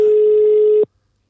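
A telephone ringback tone from an outgoing call: one steady, fairly low-pitched beep held for under a second, then cut off abruptly into silence. No voices.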